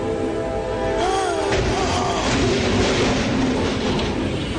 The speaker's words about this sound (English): It was a crane. Yeah, that it was a diesel with a crane. Good Lord. So, and it knocked the train off the tracks. It did. It totally wrecked it, yeah.